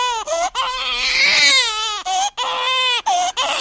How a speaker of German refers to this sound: In dem Fall wäre es ja wahrscheinlich schon zu spät und das Kind da, das so schreit, hat vielleicht seine Mutter gesehen und die ist schon 64 und sagt, wenn ich das gewusst hätte.